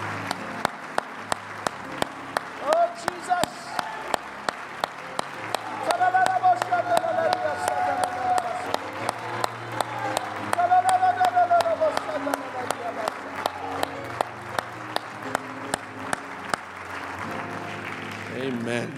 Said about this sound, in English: Let's give the Lord one more good hand clap of praise before we're